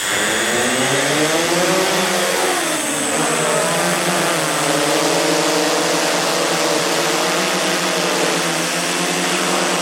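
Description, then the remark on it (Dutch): A loud, steady motorized whine with harmonic tones that rise and dip as the drone's rotors change speed, continuous throughout, with no voices, as a few volunteers test a new drone over a field in the hinterland. “Op een veld in het achterland testen een paar vrijwilligers een nieuwe drone.”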